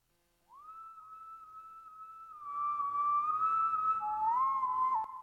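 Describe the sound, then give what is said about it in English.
A person's recorded whistling sample, used in a music track being produced, plays a clear, sustained melody, sliding smoothly between long held notes, with a fuller backing layer joining partway through and the whistle staying prominent on top. “Well, there's this one sample that's me whistling.”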